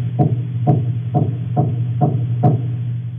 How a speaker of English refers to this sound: And we've got a nice little recording here of the little baby grey snapper larva making their sound. So this is a knock, as you call it.